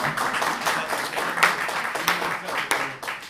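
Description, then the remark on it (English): An audience claps together at the speaker's request, a dense, steady patter of many overlapping hand claps, holding a fairly even loudness for a few seconds with a few sharper individual claps standing out. “So you either give me all your claps or no claps.”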